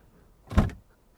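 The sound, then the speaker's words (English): An escape door in a room opens with one brief mechanical whoosh and clunk, fairly loud, then quiet returns; no one speaks. “That escape door in my room.”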